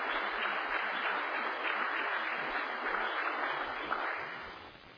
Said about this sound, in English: And if you could, just give him an applause and welcome.